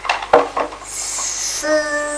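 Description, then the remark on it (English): A child's voice imitates a washing machine, starting with a few clattery bursts, then a breathy hissing whoosh that turns into a steady, droning hum to the end. “Can you make the noise of a washing machine?”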